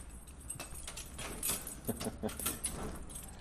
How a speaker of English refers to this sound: It's little more than a car park, and the keys that unlock the door are jingling away.